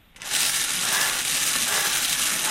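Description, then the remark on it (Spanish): A lottery drum (bombo) being spun by a contestant to draw a numbered ball, its balls tumbling in a continuous dense clatter that starts abruptly and stays loud and steady, bright and rattling, with no voices over it; number 46 then comes out. “Y venga, le das al bombo y luego hacemos el suena a la vida, ¿vale?”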